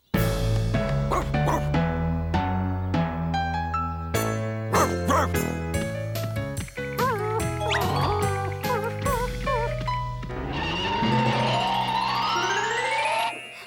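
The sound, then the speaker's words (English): A dog, Clifford, barks and yips in quick, excited bursts, loud, with short pauses between calls and a faint jingling and busy background underneath. “Want to meet my dog?”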